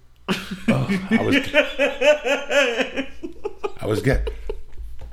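human body sound, sneeze

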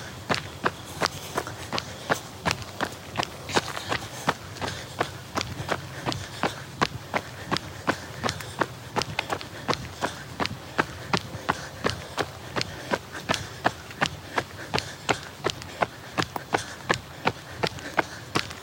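human body sound, footsteps walking outdoors

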